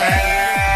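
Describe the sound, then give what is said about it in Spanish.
A loud, nasal bleat of a goat fills the whole moment, steady and buzzing, with two quick downward swoops low underneath. No voices are heard. “También me sé portar con cabra incluida.”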